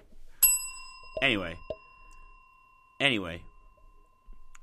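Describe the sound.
A single bright bell strike rings out sharply, then its clear tone hangs and slowly fades for several seconds while two short bursts of voice come in over the lingering ring.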